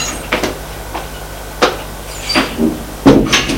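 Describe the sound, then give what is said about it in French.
A door to the basement stairs being opened: a handful of short clicks and knocks from the latch and handle, ending in a fuller thump, over a faint steady hum that fades out partway. “Long du couloir, prend les escaliers, va vers les escaliers du sous-sol, il ouvre la porte.”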